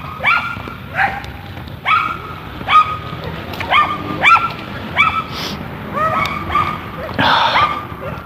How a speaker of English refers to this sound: The little yappy dogs are behind me. I haven't fit because there are dogs ahead of me crossing the street. I assume they're objecting to those dogs and not me, but who knows.